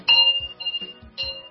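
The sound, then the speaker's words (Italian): A clock striking ten o'clock with bright, ringing metallic chimes, two clear strokes about a second apart whose tones linger, with soft low thuds in between. “L'orologio suona le 10.”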